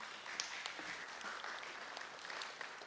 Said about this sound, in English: I do love a worship service that claps for scripture. That's awesome.